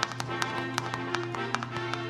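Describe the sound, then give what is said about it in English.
Shoes banged on concrete as a radio sound effect mimicking a galloping horse: sharp, hard clacks in quick, uneven clusters, repeating for about two seconds over a steady low hum. “No, I just saw some guy banging shoes on concrete.”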